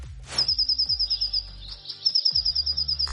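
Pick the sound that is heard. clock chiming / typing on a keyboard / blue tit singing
blue tit singing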